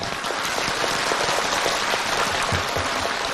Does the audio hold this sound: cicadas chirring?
no